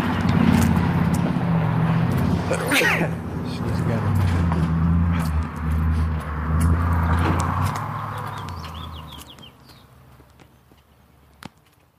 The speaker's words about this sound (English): Noisy truck, I'm sure he's immensely popular with the neighbors.